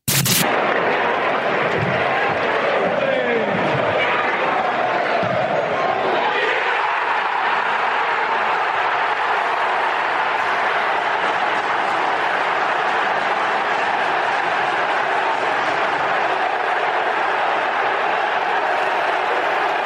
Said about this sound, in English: this is just for the audio of Leeds scoring the goal and a bit of singing